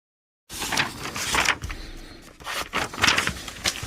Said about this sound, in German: Ohne dieses Geräusch kann ich mir mein Leben nicht vorstellen. Das Rascheln von Buchseiten. Ein Geräusch, das mich seit meiner Kindheit verzaubert.